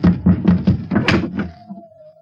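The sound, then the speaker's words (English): A series of about six firm knocks on the wooden door of a house in Baghdad, evenly spaced, followed by a faint lingering tone as the knocking stops. “I'll knock now.”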